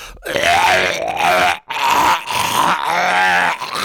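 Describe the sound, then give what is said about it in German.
A voice imitates a man retching during a car ride: loud, strained, guttural gagging in two long heaves separated by a brief gasp, rough and throaty throughout, with no other speech. “Und allein als er dieses Geräusch gemacht hat, ne, musste ich fast auch würgen.”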